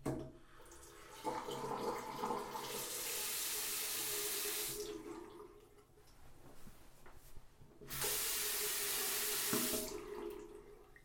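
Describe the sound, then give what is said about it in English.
A bathroom sink tap in a small room with a toilet and shower is turned on twice, each time sending a loud, steady hiss of running water for a couple of seconds, with quieter clinks and handling sounds in between. “On the left side is a sink.”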